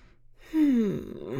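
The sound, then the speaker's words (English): A person yawns once: a sudden drawn-out voiced breath that slides downward in pitch and trails off into a soft exhale over a quiet background. “I'm yawning.”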